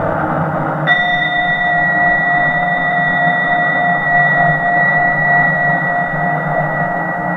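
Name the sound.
bell being rung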